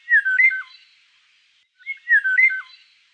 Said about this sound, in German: Und als krönender Abschluss der heutigen Episode hören wir uns jetzt einen Vogel an, nämlich den Bird of the Day.